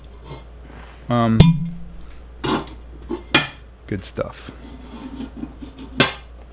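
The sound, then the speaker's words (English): A ceramic lid scrapes and settles onto a thick, bright red glazed pot in a studio with a ringing clatter, put on to speed up the cooking, followed by a few lighter clinks and knocks, while a person briefly speaks. “I'll throw the top on to try and speed this process up.”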